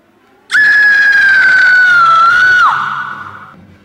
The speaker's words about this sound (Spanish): ¿Has oído ese grito? ¿A qué grito te refieres? ¡A ese grito! Sí, sí, que lo he oído.